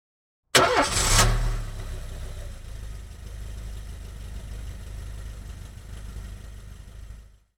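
A car engine cranks with a brief loud whir, catches, and settles into a steady low idling rumble that continues for several seconds, with no voices.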